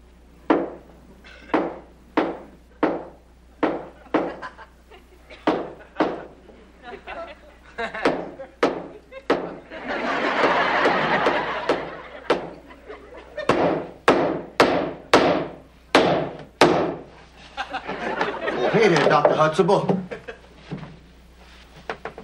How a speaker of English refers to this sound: Do you have to hammer? I don't have to, but I wouldn't feel right if I got paid for just standing here.